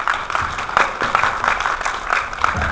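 A crowd breaks into warm, steady applause, dense overlapping claps forming a sustained clatter at fairly even loudness throughout, with no one speaking over it, welcoming a lecturer to give a talk on Tanggu, Tianjin.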